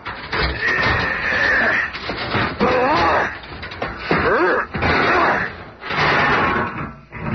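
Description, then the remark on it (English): The door of the special elevator in the lobby of the Baxter Building is smashed in with a series of loud, heavy crashing bursts, broken by screeching, grinding metal that rises and falls between the impacts. “Oh, well. We've been needing a new door anyway.”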